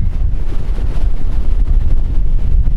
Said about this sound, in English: Mount Mussolacci, 4,802 feet. Super windy up here.